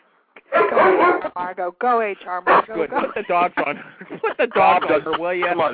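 A dog-barking sound effect: dogs bark and yap loudly in quick, overlapping bursts, the barks following one another almost without pause for several seconds.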